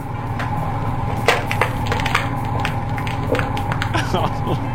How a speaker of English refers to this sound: All right, now you got to pay attention because this is not really loud per se, but it's that squishing sound that nauseates me. Take a listen to this.